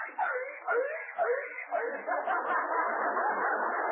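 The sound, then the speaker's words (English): A dog named Fido gives a quick series of yappy, whiny barks, which then blur into a rough, continuous muddle of noise. “He's playing gin rummy with his dog.”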